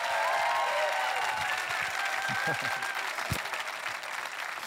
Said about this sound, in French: J'aimerais vous dire que les gens en première réunion ont beaucoup plus applaudi. Je vous donne une autre chance. Vous voulez applaudir le Dieu qui répond à la prière?